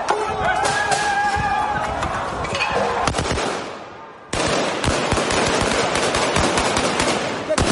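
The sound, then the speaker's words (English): Rapid bursts of gunfire crackle in a chaotic outdoor street scene as police fire on protesters, with dense repeated shots, some tonal shouting or sirens early on, and a brief lull before the firing resumes. Police are also using tear gas against youths who block roads and burn tires in the city. “Police responded with gunfire and tear gas.”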